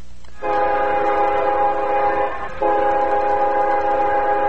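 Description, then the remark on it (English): A CSX freight train's horn sounds two long, loud, steady blasts with a brief break between them, a rich chord of tones held over a low rumble, as it rolls through Anna behind the West Press Box at Booster Field on a football night, with no one talking. “On football night, the CSX rolls through Anna behind the West Press Box at Booster Field.”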